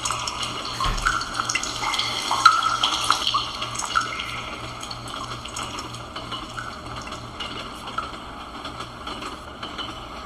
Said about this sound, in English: Dripping water, holding down the down arrow to duck.